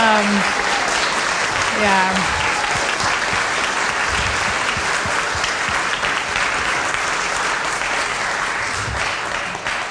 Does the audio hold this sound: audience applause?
yes